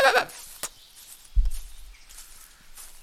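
A goat gives one short, wavering bleat right at the start, followed by a dull low thump and then near quiet.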